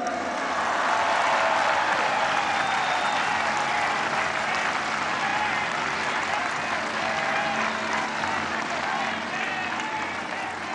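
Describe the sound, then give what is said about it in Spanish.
Sustained applause from a large crowd in Mexico for the money Mexicans abroad send to their families, a dense steady clatter of clapping holding at an even loudness for about ten seconds, with faint cheers and voices mixed in. “Otro aplauso.”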